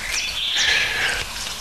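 chaffinch song

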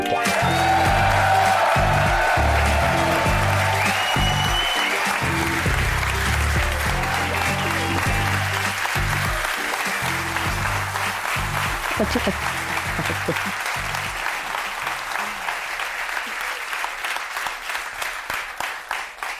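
theater audience applause

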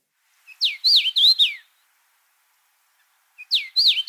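songbird song

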